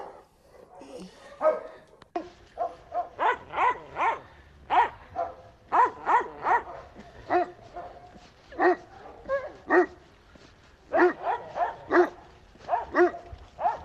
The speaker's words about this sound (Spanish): Sí, parece que ahí alguien está jugando con un perro,